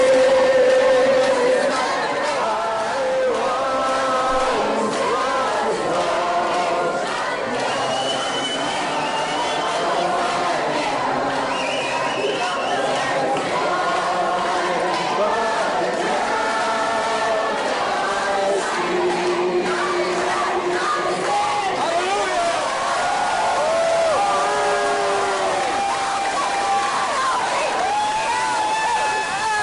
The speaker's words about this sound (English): but in the background, it's hard to kind of tell, but you hear some chanting. And the Blaze is reporting that the chanting that you kind of, it's hard to make out, they're hailing Satan, giving Satan credit for the abortions.